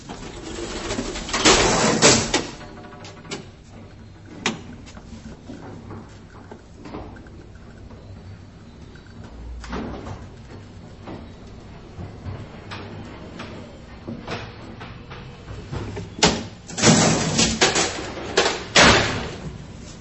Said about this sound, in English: This elevator is from the Empire Building on Hastings Street, erected not very long after the Great Vancouver Fire of 1886. It's a DC elevator, hence the absence of 60-cycle hum, and there is no fan noise.